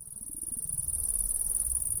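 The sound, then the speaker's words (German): A steady, shrill cricket trill rings continuously at high pitch over a low, rumbling drone that swells slightly louder partway through; no voices. Part of a 2003 electroacoustic composition built from recorded meadow sounds such as bumblebees, crickets and bees. “Als Grundmaterial für diese Arbeit hat sie Geräusche der Wiese aufgenommen, so zum Beispiel das Summen der Hummel, der Grille oder der Bienen.”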